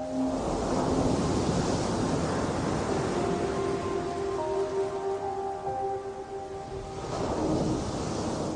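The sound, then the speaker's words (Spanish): Ocean waves wash steadily onto the shore in a loud, continuous roar that swells near the start and again near the end, with a faint steady hum drifting through the middle. “Siento su monotonía, como el vaivén de las olas. Es predecible, es repetitiva. Huele a sal y a humedad.”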